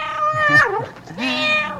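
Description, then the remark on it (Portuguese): A cat meows twice in close succession, each call drawn-out and tonal with a bending pitch, loud, with no voices around it. “Bom dia, gatinho da Povo. Olha ele aí.”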